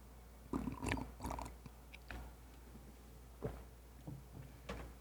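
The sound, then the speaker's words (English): Someone takes a quiet sip of a drink, with a scattering of soft clicks, gulps and light cup knocks spread over a few seconds. No one speaks. “Just going to get a little sip here.”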